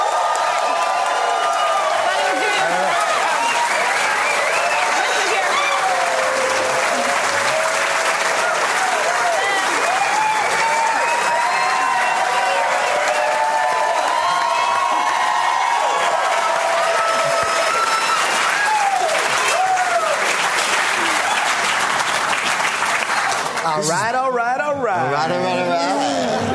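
An audience at Largo on La Cienega in Los Angeles breaks into sustained, loud applause welcoming comedians, with cheers and whoops rising over the clapping, holding steady for nearly half a minute before tapering at the end.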